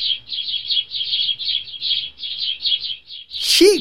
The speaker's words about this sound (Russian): Озорные воробьи только дождь утихнет, к лужицам летят.